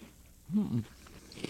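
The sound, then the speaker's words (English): Quiet crunching of someone biting and chewing a crisp snack, with a short hummed voice sound partway through and a final sharp crunch near the end. “Can people hear us crunching when we're crunching?”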